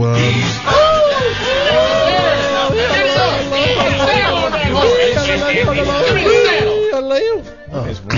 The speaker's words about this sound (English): I heard yodeling this time.